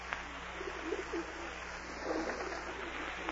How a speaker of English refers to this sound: Go away, pigeon. Shoo, go on. I haven't any peanuts. Go away. Make yourself a nice pigeon nest and sit in it. You know, you birds are just as stubborn as my board of directors. Only you sound a little more intelligent.